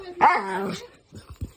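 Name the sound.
mixed-breed dog barking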